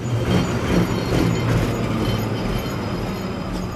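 The number 38 tram rumbles steadily along a city street in Moscow in the morning, carrying commuters: a continuous heavy roll of wheels on rails with metallic rattling and faint whining tones, loud and constant throughout with no voices.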